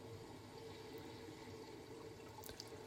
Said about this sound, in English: The sound of the tide on the ebb like a river.